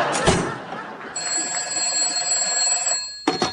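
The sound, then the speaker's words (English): A telephone rings in the office of Flywheel, Shyster, and Flywheel in one sustained, bright, high-pitched burst lasting about two seconds, framed by short bits of rustling noise before and after. “Flywheel, there's a call for you.”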